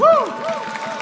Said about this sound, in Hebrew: ועכשיו אתם תעזרו לי, מחיאות כפיים למקהלה שלנו.